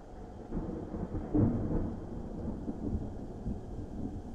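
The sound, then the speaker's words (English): A deep, rolling peal of thunder rumbles continuously in the middle of the night at a cabin, swelling slightly after the first half second and lingering at a steady level with no voices. “To a peal of thunder and the sound of our cabin being pelted.”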